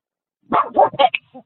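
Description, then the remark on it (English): A dog gives a quick run of three or four barks, the last ones shorter and yippier, fairly loud, with no one talking over them. “Listen, the dog has an opinion.”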